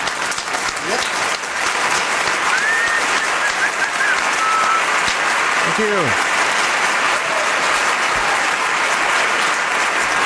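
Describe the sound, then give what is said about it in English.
Loud, steady audience applause for the All Boy Orchestra fills the whole stretch, a dense crackle of many hands clapping, with a few faint whistles and a brief voice rising through it midway. “how about a round of applause for Bruce Limprist and the All Boy Orchestra?”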